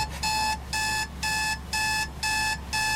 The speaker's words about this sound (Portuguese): aquele despertador que soa a filme de terror, não é? Aquele terror que não mata, mas mói.